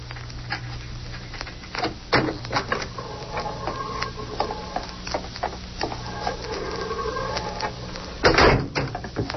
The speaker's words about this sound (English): Open the corridor door, John.